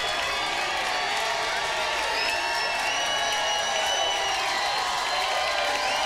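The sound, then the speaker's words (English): A large crowd yells and cheers continuously for a band to come back out for an encore, a dense wall of shouting voices with scattered whoops rising above it, sustained and loud throughout without a break. “You got to keep yelling.”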